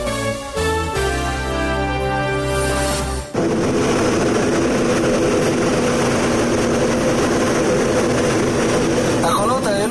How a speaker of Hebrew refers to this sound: הרעשים שנשמעו לפני כמה ימים מתא הטייס של מטוס פירוטכניקה רוסי שטס בשמי מוסקווה לרגל 9 במאי, החג הלאומי הרוסי לרגל הניצחון על הנאצים הגרמנים.